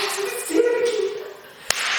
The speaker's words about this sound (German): Also bei der Gruppe muss ich immer dreimal klatschen. Das erste Mal klatschen bedeutet, hey, die Szene beginnt gleich.